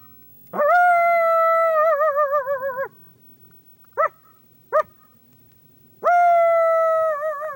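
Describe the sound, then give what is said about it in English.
A coyote researcher imitates a coyote howl loudly to get penned coyotes howling: a long sustained howl that wavers at the end, two short sharp yips, then another long howl begins, with no talking. “gets them howling. He goes first.”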